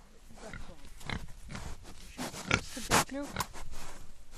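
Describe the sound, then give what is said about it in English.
Rare breed pigs named Marjorie, Hattie and Ishbini grunt and snort on a farm in hot weather at feeding time, moving out of a horse chestnut tree's shade into the sun: a busy run of short, rough grunts with a few higher squealing snorts, against a noisy outdoor background. “who've been adjusting to farming in this hot, hot heat, along with their new rare breed pigs, Marjorie, Hattie and Ishbini.”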